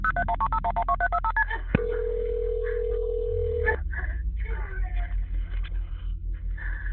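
A rapid sequence of touch-tone dialing beeps, about a dozen short pitched tones, as an emergency call is placed on a Tuesday afternoon to the Waller County emergency line, followed by a steady ringing tone, then a low hum and muffled background sounds.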